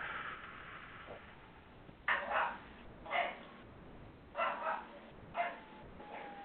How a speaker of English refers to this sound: If you all can hear barking in the background, it's because my puppy is locked out of my bedroom and really wants to see her mom. I apologize, but... 3 months old, and she does not like to be separated from me.